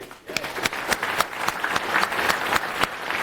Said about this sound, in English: I'm like clapping for myself over here.